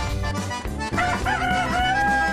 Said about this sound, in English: Egyptian Fayomi. Fayomis are small, quite active chickens that have been raised in the Nile Valley since before the Christian era.